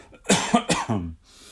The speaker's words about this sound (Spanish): Voy a toser.